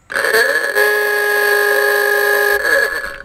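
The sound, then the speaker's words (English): A loud, brassy aooga horn blares once, its pitch swooping up at the start, holding a long buzzy honk, then sagging back down at the end. No one speaks. “It could be like one of those, you know, Auga things.”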